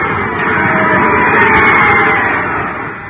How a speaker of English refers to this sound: I just saw a swell baseball game here. Listen to that crowd cheer the winners.